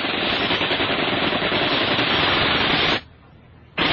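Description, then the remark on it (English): A sustained, rapid burst of machine gun fire aimed at a helicopter landing on a hotel roof, a dense crackling roar for about three seconds that cuts off abruptly, then resumes briefly at the very end. “Muslims opened up with a deadly hail of fire.”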